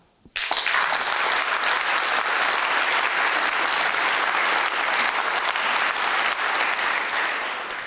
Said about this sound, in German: Dieses Mal aber vor großem Publikum, das ich, wenn es möchte, gerne mit einem kräftigen Applaus auf die Tonspur schreiben darf.